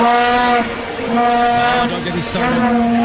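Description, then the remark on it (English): Vuvuzelas, 2-foot-long plastic horns blown like a trumpet, blare at the World Cup in a loud, continuous, buzzing drone, several horns overlapping on one steady low-middle pitch with slight wavering, dipping briefly before swelling again. “It kind of sounds like a sad dying elephant, but it's a vuvuzela.”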